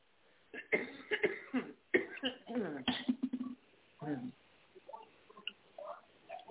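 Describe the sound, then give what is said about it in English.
Someone taking sips of water: wet mouth clicks and a few swallowing gulps, mixed with throaty, cough-like bursts and breathy noises, fairly loud, with no clear words. “Hold on, let me take a drink of water.”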